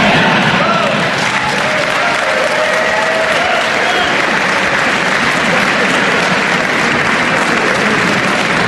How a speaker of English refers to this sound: Throwing a wall line, I might get everybody to clap for that one, right?